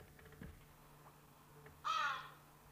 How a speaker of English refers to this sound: The crow is for many a nature lover, the true signature of the woods, the purveyor of the woodland mystique.